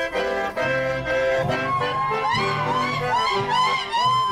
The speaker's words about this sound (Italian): Quello che si ascolta è un sapucai. Il sapucai è una manifestazione del chamamesero. Si può gridare il sapucai come un festeggiamento, come una sfida, una rabbia o per sciogliere una grande emozione.